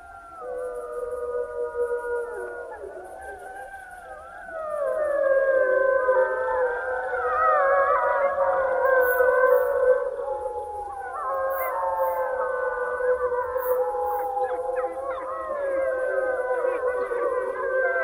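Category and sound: animal, wolves howling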